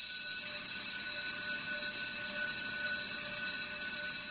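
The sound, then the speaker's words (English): A school class bell rings continuously at a steady, loud level, a bright metallic ringing that holds unbroken for several seconds with no talking over it. “Class bells ringing can be a frightening sound for students in Louisiana if it means they will be facing a bully in the hallway after class.”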